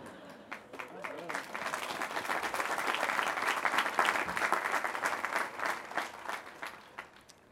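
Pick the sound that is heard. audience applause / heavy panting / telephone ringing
audience applause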